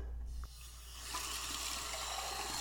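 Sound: tap water running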